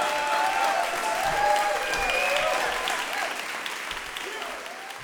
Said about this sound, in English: All right, so how about a huge round of applause for our next storyteller